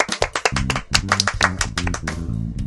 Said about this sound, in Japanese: よし、今日は拍手。